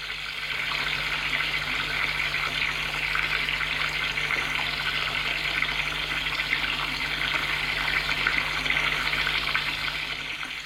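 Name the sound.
shower water running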